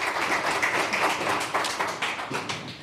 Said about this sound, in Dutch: een applaus voor jou. Dankjewel voor je cryptocurrency bijdrage.